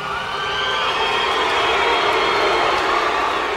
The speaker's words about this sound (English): Well, I guess maybe that pretty much tells you something. A mixed reaction by this capacity crowd.